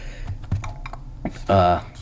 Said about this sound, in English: Okay, I'm just pressing. I'm using Touch Bro, by the way. You put all your fingers on the screen and you start typing as if it was like a regular Braille keyboard.